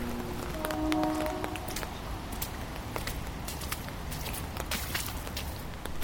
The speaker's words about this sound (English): I walked to the tree and listened to the bees in the artwork, mingling with the rain in the garden. The rain was a large sonic aspect of Magic Hour. There is something otherworldly about the stillness in the air after rain.